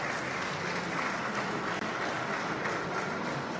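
An audience applauds steadily, a dense wash of many hands clapping at an even, fairly loud level for a few seconds with no voices over it.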